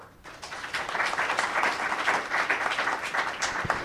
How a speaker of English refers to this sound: And let's give one more round of applause to our two panelists.